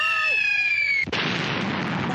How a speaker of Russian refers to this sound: Упал кирпич на лесу и... Отдавил ей хвост.